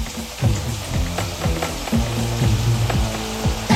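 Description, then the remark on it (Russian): Heavy rain drums down in a dense, steady hiss, punctuated by scattered sharper patters and low thuds, with no voices throughout. “Тяжелые капли забарабанили по голове и плечам капитана королевской стражи.”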